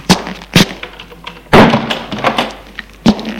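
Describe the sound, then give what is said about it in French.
A second-floor apartment door is handled and shut at 7 pm as a man enters his two-room flat: a couple of short knocks, then a heavier clunk as it closes, followed by a final sharp latch-like thud. “Un F2 éclaire et ferme la porte.”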